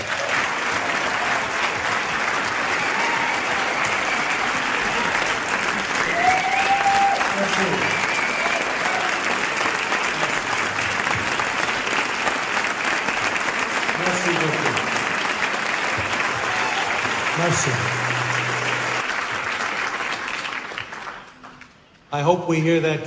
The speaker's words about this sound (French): J'espère que vous applaudirez comme ça à la fin du film.